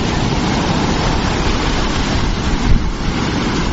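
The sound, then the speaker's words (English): Ocean surf washes steadily around a person standing in the sea at Palm Beach, Australia: a dense, continuous roar of breaking water, with a gusty rumble of wind buffeting the microphone and a slightly louder swell near the end. “I had to come and take the ocean. I am standing in the ocean.”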